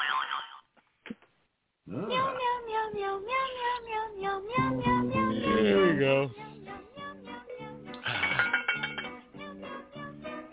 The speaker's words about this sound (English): That's a big cat you got there with that bell. It is, I tell ya. Big cat.